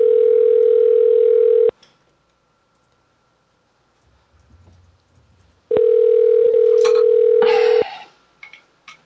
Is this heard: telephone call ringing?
yes